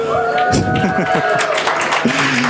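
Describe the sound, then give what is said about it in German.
A loud audience at the 31C3 congress cheers and shouts for a Skype test call while scattered clapping crackles through the noise, a dense, steady roar of many voices lasting a couple of seconds. “Bitte einmal lautes Publikum für Skype.”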